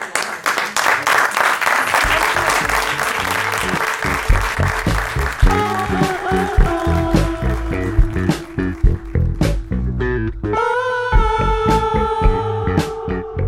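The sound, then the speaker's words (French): An audience applauds at the close of an evening event broadcast on Canal B, with dense, steady clapping that thins into more separate, rhythmic claps, while sustained musical tones rise underneath and grow clearer toward the end. “Ainsi que les applaudissements peuvent le laisser suggérer, il est maintenant plus que temps de se quitter et de rendre l'antenne pour laisser place au programme de la nuit sur Canal B.”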